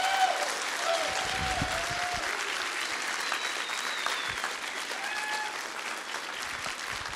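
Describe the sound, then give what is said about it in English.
A large audience claps steadily and warmly for several seconds for the students who led worship, a dense, sustained wash of applause with a few faint whoops and cheers rising above it. “And if you are, you can give them another round of applause.”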